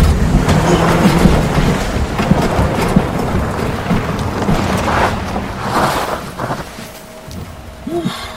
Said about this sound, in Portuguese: Vixe, é melhor parar o carro e dar um tempo. Mas e se essa chuva demorar pra passar? Ou pior ainda, se a chuva piorar, se é que isso é possível.